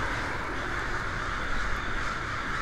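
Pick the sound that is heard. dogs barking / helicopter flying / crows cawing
crows cawing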